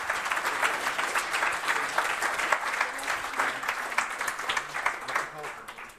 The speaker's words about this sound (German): Ja, danke schön auf jeden Fall für eure Eindrücke und damit noch Applaus für unsere zweite Gruppe zum Biohack.